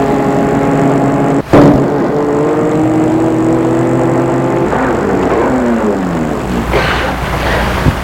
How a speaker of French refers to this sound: La rue est déserte. Tout à coup, apparaît une voiture noire. Elle la dépasse.